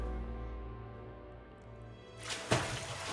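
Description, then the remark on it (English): A soft low hum gives way to a gentle wash of trickling water near the end, with a single distinct drip landing amid the flow. Quiet, with no voices. “But the water told him he was home.”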